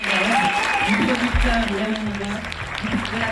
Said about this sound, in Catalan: Anem d'una història d'èxit amb una altra, i sí, volem felicitar la protagonista que rebia aquests aplaudiments per Aina Clotet, que es va endur ara fa uns dies al Festival de Canes, on va presentar la seva òpera prima, Viva.